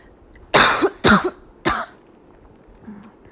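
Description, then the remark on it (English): Three sharp coughs in quick succession, the first two nearly back to back and the third after a brief pause, followed by quiet breathing with no talking. “I'm sorry for coughing.”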